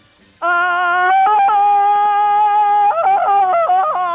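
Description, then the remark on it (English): A person does a Tarzan yell: a loud, sustained vocal cry that holds one high note, then breaks into rapid warbling yodel-like pitch jumps before ending. No other voices. “But would you mind doing the Tarzan yell?”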